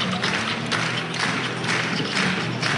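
A huge stadium crowd at a football match claps steadily and enthusiastically, a dense, continuous wash of hand claps that stays loud throughout, with a faint low hum underneath and no voices.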